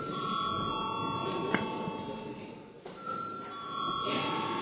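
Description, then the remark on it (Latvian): A parliament voting bell rings continuously before a vote on a bill, a steady electronic tone that holds for several seconds over faint room noise, with no talking. “Paldies, lūdzu zvanu.”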